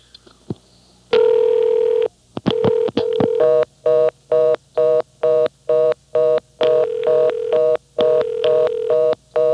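A telephone line sounds a steady tone, a few clicks, then a double ringing tone after a number is dialled: a rapid run of short, loud electronic ringing bursts in quick groups, clear with no voices.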